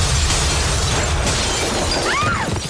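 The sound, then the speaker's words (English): Loud crash of windows imploding and glass breaking with a heavy low rumble, followed by scattered tinkling shards and debris settling; no voices. “The windows implode and Beth is thrown to the floor.”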